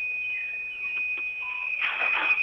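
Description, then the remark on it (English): UPS units in an office, after the power died, sounding a shrill, steady electronic alarm tone that holds almost without a break, heard over the phone, joined near the end by a short burst of rough, noisy clatter; no one speaks. “the power has just died here and all the UPSs in the office are going haywire.”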